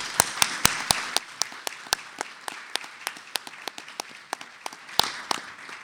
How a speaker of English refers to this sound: So it's a great pleasure and honor to recognize the contributions of so many individuals, and I hope that you'll join me in giving them a round of applause for their extensive service to NIU.